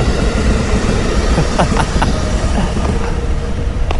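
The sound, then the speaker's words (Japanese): A train rumbles past steadily, a loud continuous low roar with faint metallic clicks and brief squeals from the wheels, with no voices. “はい、今日もやっぱりなんだ言いながら電車の通る音が入っておりますが、移動している音がソフトですね。”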